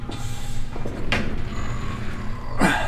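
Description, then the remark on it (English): A stuck door that looks slightly rusted is forced open with two sharp jolting knocks and a faint grinding creak over a steady low rumble. “It's a bit stuck. It looks like it might be slightly rusted.”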